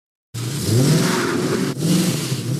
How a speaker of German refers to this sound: Extra stark aufs Gas drücken und die Reifen zum Quietschen bringen. Solche Autolärmer, auch Autoposer genannt, sollen künftig gebüßt werden.